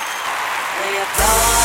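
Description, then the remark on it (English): Canned applause sound effect: a steady crackle of many hands clapping that suddenly swells much louder near the end, with a roar of crowd noise joining in. “I think we should have an applause track in there or something.”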